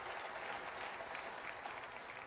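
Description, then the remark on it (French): A large church audience at Église Nouvelle Vie applauds steadily, a dense, continuous wash of many hands clapping at once, sustained and fairly loud throughout with no voices standing out. “et à lui ce matin soit toute l'honneur, toute la gloire et toute la louange, et que l'Église Nouvelle Vie dise amen et applaudisse celui qui nous a donné la lumière et la vie.”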